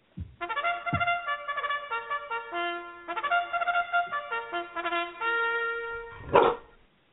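A few short dog barks, one at the start, another soon after and a louder one near the end, set against steady, stepping tonal sounds that run through the whole stretch.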